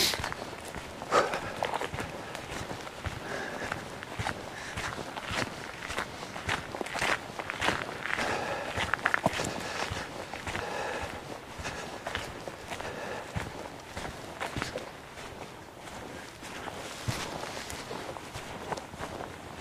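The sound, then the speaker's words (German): Steady footsteps tread over soft, boggy, black ground that feels like peat, each step a muffled squelching crunch in a regular walking rhythm, with faint rustling between strides and no voices. “Und ich merke schon, hier der Boden ist sehr moorig. Es ist schwarz, es ist weich. Es fühlt sich an, als würde man auf Torf laufen.”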